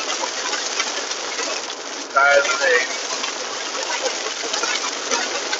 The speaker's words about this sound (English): Oh, that's some rain. So it's never a dull moment out here. You know, I'm kind of having a, I'm going to have to speak over this rain. This is an action-packed podcast. But, I'm going to have to, oh man, it got heavy. So, scatter shower.